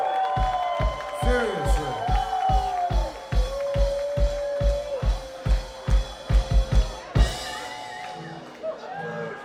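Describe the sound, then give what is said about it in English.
A live concert crowd at the Vinyl Music Hall in Pensacola, Florida roars and whoops, cheering the crew during a toast, with scattered rhythmic clapping and stomping, loud, with shouted voices rising above the din before it fades near the end. “cheer them now! This toast is for you.”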